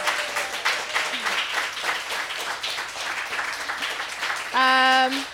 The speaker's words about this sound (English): Before we close it out, applause.